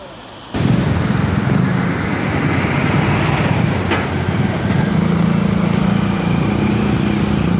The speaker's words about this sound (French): Même par mauvais temps, il est intéressant de sortir dans la rue pour voir ce qu'il s'y passe. La circulation est dense et bruyante.